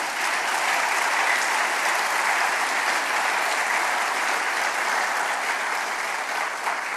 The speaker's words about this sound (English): In fact, if there's a place to applaud, this would be the time.